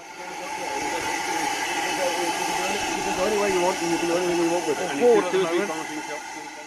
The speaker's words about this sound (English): down at the Avon Valley Railway in Bitton last week for a rare treat to see a restoration of one of the world's first locomotives, Stephenson's famous Rocket, being put through its paces.